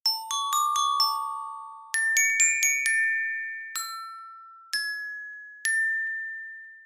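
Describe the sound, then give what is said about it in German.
The colourful bars of a glockenspiel are struck with two mallets, a quick run of bright metallic notes followed by a few slower, single tones that ring out and fade, clear with no voices. “Das hier kenne ich, ein Glockenspiel. Mit den beiden Schlägern klopfe ich auf die bunten Plättchen.”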